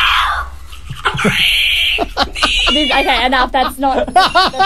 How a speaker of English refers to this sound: Let's hear the bit where she's brushing her teeth and gets hiccups. It's this bit.